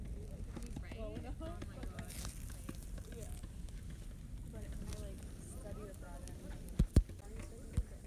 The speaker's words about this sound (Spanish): que se oirá hasta el fuego en la grabación. Hostia, vaya fogata, ¿no?